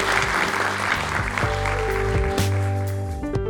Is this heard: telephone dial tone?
no